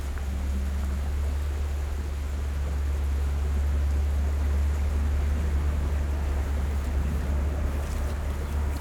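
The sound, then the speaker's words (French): A tractor passes by, its deep, steady engine rumble droning continuously, fairly loud, with a low throbbing hum and some wind-like hiss over it; nobody speaks. “On laisse passer le tracteur.”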